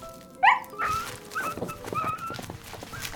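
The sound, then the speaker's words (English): Wolves whimpering: one sharp, high-pitched whine rises at the start, followed by softer, intermittent whimpers trailing off over a few seconds, with no talking. “Just as the wolves were poised to attack.”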